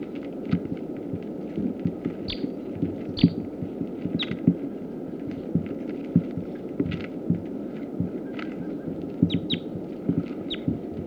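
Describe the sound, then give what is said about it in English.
A captive male sitkensis bird, just captured and now on the cage, gives short, sharp, high-pitched call notes, repeated irregularly every second or so, over a constant low rumbling hum with no voices. “That was him again. Sitkansis male. Captive.”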